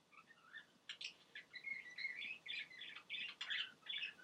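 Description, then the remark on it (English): Pet parakeets Belle, Sparty and Dodger chirp and chatter continuously in quick, overlapping bursts of high, bright tweets and squawky notes, fairly faint, with no talking. “Well, the parakeets still have a lot to say.”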